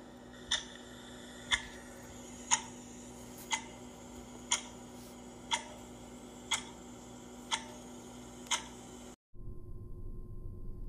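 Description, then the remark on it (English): A clock ticks steadily, one crisp tick per second, about nine ticks over a faint hum, then it cuts off abruptly into a dull, muffled rumble. “Let the clock begin.”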